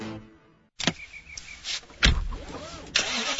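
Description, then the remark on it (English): After a brief silence, the engine of a certified pre-owned BMW being test driven cranks and catches, followed by a sharp mechanical clunk and the engine revving up and down, with no one speaking. “Today, I'm test driving a certified pre-owned BMW along with an array of other cars.”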